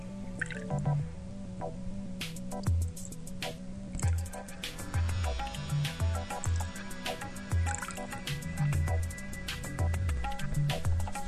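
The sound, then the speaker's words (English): Thick custard mixture pours and splashes in uneven spurts into six standard-sized custard or flan dishes set in a baking pan, with soft drips, gurgles and light clinks of a utensil against the dishes, with no talking. “Divide the custard mixture among the dishes.”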